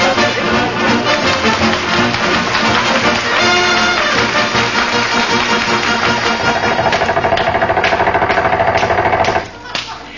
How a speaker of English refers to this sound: If she won't, Mrs. McGee, we'll have to use air hammers and chop him loose.